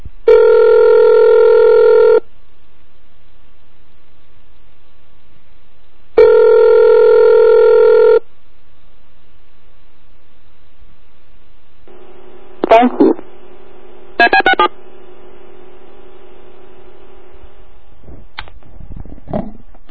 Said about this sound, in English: and then eventually I would dial a number, and then it would play back like the first three DTMF tones. That was really cool.